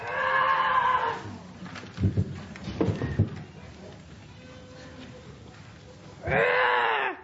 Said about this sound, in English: She was startled from her thoughts by a yell of a tiger.